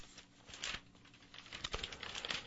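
Soft, irregular clicking of keys being typed on a keyboard, a quick run of light taps with a few slightly louder strikes, fairly quiet, with no voices.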